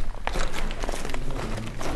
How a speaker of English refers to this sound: But instead of the sound of church bells, there is only the crunching of rubble as people walk through the remains of the Church of the Archangel Michael in the village of Kirdesa, just outside Cairo.